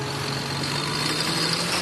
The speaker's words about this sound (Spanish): ¿Qué es ese sonido? Es el sonido de un tractor. Estoy en la Plaza de la Independencia, al lado de la Puerta de Alcalá, junto a una columna de tractores que vienen de Guadalajara.